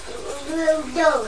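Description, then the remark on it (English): Water runs steadily into a sink for the washing up, a continuous hiss under a voice speaking over it. “Shall we put some bubbles in the washing up water?”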